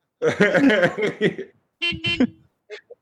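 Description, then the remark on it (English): Several car horns honk over one another in a dense, overlapping blare, then a couple of shorter toots follow after brief pauses, like a traffic jam. “Guys, I don't know if we're in a traffic jam or if I'm killing.”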